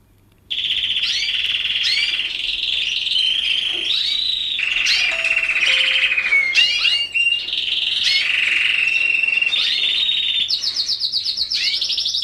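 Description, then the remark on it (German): A songbird of a kind bred for its song sings loudly and without pause for about twelve seconds: rapid rolling trills, whistles and buzzy chatter shift from one phrase to the next, with no talking. “Und wurde dann immer weiter gezüchtet und hat so einen heftigen Gesang entwickelt. Und ich habe hier mal eine Aufnahme.”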